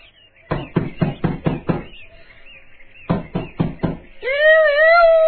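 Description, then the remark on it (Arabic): Rapid knocking on the door of a house as guests arrive, a burst of six sharp raps, a short pause, then four more, followed by a sustained wavering tone. “وبعد دقائق سمع الأصدقاء طلقا على الباب.”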